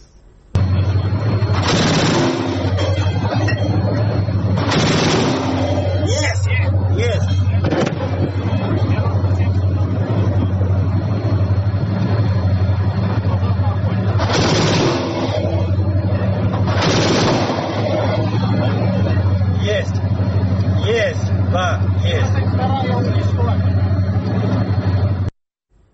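A Gepard self-propelled anti-aircraft gun fires four loud, roaring bursts of about a second each, two early and two later, over a constant low, humming engine drone, during one of the recent shelling attacks.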